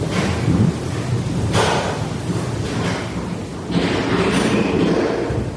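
Heavy thuds and bangs, like doors and cupboards slamming shut and feet stomping, recur every second or so over a steady rumbling background noise, with no voices, recorded by a microphone left in an empty house.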